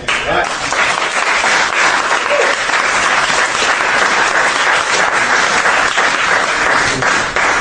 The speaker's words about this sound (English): Now, when I say that at Republican events, that's when, like, the bricks start coming out, so I really appreciate the applause.